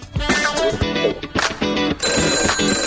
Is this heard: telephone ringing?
yes